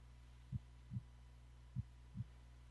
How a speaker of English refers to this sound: Listen to your heartbeat as I slow down my words. Your heartbeat slows with me, slower and slower.